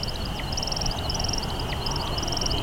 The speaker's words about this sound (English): He's going to keep going up until we can't even see him anymore, probably. Up and up he goes, spiraling hundreds of feet up into the air. And then at the apex of his flight, he starts to chirp.